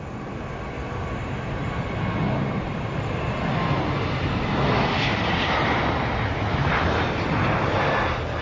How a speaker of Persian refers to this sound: سرانجام دقایقی بعد از ساعت 18 اولین هواپیمای MC-130 در آسمان مسیره به پرواز درآمد. در این هواپیما سرهنگ کایل، تیم کنترل حمله، تیم مراقبت از جاده، تعدادی از نیروهای عنصر آبی و سرهنگ بکویس سوار بودند.